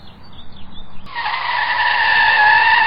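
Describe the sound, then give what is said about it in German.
After a second of faint road noise, car tires suddenly screech into a loud, sustained squeal as the car skids hard to a stop for a person walking out in front of it. No one speaks. “Willst du dich umbringen? Hier einfach durchs Auto laufen?”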